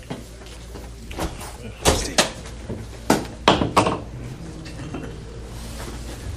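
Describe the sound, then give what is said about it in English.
A door being opened, with a handful of sharp clunks and latch rattles spread over a few seconds against a steady background hum. “Open the door a little bit.”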